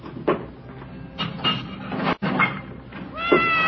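siamese cat meowing

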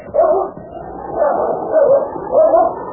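dog barking and whimpering

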